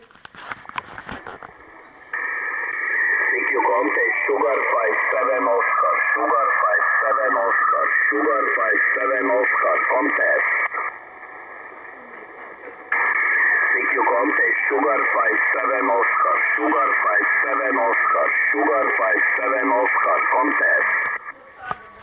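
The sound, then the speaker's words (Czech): A ham radio station calls out over the air with harsh, overdriven modulation, the voice distorted and gritty yet still intelligible, in two long transmissions separated by a brief drop to hiss. “Jak má, poslechněme si jednu stanici, jak dává výzvu.”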